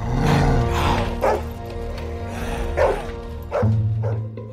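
In a scene from a Hungarian film, several dogs bark and yip in a noisy, overlapping chorus, some loud, with whimpering mixed in and a low rumbling background underneath.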